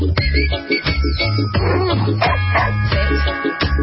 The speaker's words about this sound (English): The world's first Christmas song for dogs